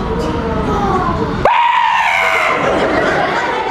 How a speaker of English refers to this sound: Students in grades 3 through 6 sat cross-legged or on their knees on the gym floor. They squealed and clapped as 14 members of Senior STEM Society demonstrated the magic of science.